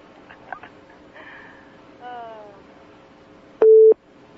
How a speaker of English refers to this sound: That beep's not bothering me so much anymore, as long as you're a live human being. If you were a recorded voice right now, that beep would really be getting to me. I know it's bothering listeners.